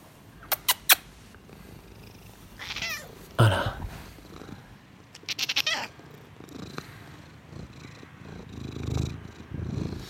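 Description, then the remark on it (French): A cat purrs in a steady, low rumbling drone, broken by a few sharp clicks and rustling bursts, with one short spoken word partway through; the cat has got into a psychotherapist's office. “Donc c'est un chat qui s'est introduit dans le cabinet.”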